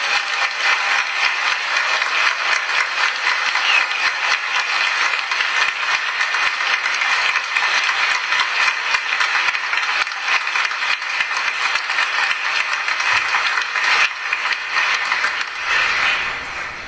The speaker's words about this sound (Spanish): fuerte el aplauso.